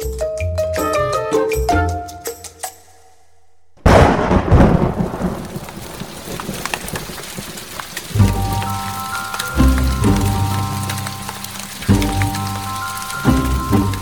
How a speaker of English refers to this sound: It rained and it rained and it rained.